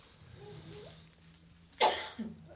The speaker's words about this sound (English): I agree with that cough.